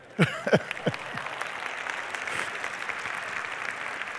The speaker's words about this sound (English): I thought our choir today was pretty good, didn't you? A muted clap from one individual. I think they were very good.